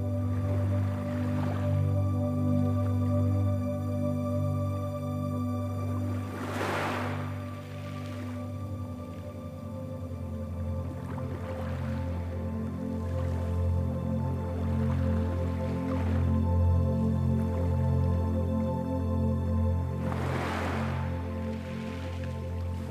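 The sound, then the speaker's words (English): Gentle waves splash softly in about five brief, airy surges spaced several seconds apart, layered over a steady, low, humming drone that continues throughout. “Occasionally splashing above your knee with each gentle wave.”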